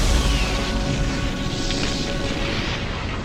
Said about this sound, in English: The party grabs the loose papers from the base of the spire and run for cover, just as the arcane remains overload and a huge explosion tears through the passage just behind them.